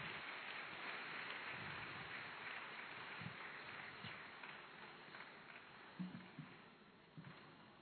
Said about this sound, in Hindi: इस स्वागत की श्रृंखला में हम अपनी हृदय की खुशी तालियों के द्वारा अलंकृत करें।